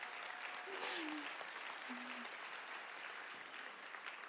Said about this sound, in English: Aren't these kids adorable? Let's encourage these families with an applause.